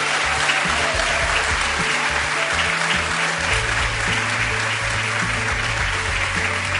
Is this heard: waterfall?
no